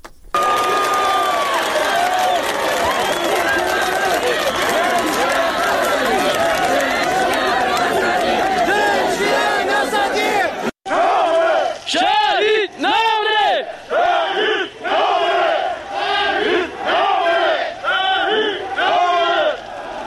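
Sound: protest crowd shouting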